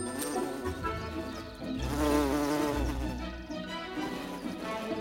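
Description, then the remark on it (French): A bumblebee buzzes in flight, a steady low drone that swells louder in the middle, then settles back to a continuous hum. “Ils sont capables de voler par un temps froid que ne supportent pas les abeilles à miel.”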